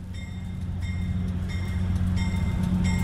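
A White Pass and Yukon Route train rumbles steadily along the rails from Fraser, descending steeply from the 1000-metre White Pass toward Skagway on the Pacific coast. It makes a loud, continuous low roar with faint metallic ringing and periodic rattling bursts, with no voices.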